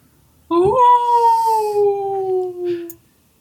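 animal, wolf howling

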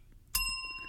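signal or alarm, bell ding

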